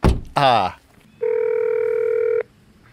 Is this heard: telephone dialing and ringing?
yes